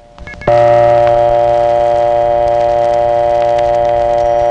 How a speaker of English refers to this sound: And that's how a 1970s Bell System prepay coin phone messes up the sound of dial tone.